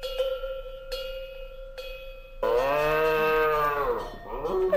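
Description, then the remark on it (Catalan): A bell clanks a few times with a steady ring, then an ox grazing in a cabbage field lets out a long, loud low that falls away at the end. No one speaks. “El bou encara estava pasturant tranquil·lament.”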